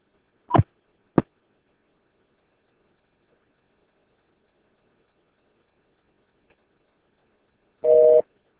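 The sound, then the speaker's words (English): Two sharp clicks on a phone line, a long stretch of silence, then a single short burst of a buzzing telephone busy tone near the end. No one speaks. “sometimes if you do come across a situation where the main phone is disconnected or out of service or whatever it might be, you can drop down to the other phone”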